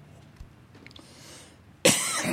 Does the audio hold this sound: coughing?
yes